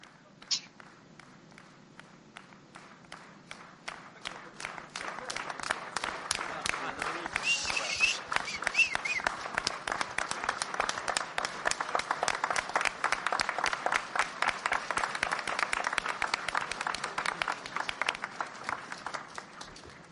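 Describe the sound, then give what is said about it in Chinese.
An audience breaks into applause for friends from many countries, swelling within a few seconds into steady, dense clapping that holds at a strong level for the rest of the twenty seconds, with no one speaking. “Поаплодируем нашим.”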